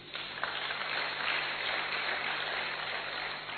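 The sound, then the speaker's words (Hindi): An audience claps steadily in honour of farmers, a dense wash of many hands that holds at an even level throughout with no voices over it, just a faint low hum underneath. “तो जैसे जवान का नारा, वैसे ही एक ताली किसान के लिए।”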